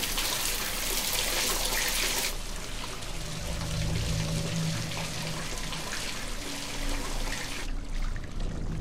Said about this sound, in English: The flames of a handful of candles flicker as an overflowing bathtub spills water onto a tiled floor. The tap continues pouring water as the soapy liquid on the floor spreads from the room.